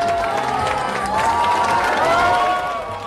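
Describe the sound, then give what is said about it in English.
A crowd cheering excitedly at the opening of a new Apple store in Beijing, China, a dense, sustained roar of many voices with high shouts and whoops rising above it, loud and steady throughout before easing slightly at the end. “You can hear some of them cheering excitedly at the opening of a new Apple store in the Chinese capital of Beijing.”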